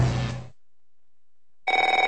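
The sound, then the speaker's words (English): A telephone rings twice, each ring a bright, trilling electronic burst separated by a stretch of silence; loud, with no voices. “If fear strikes your heart when the phone rings, knowing it may be another bill collector”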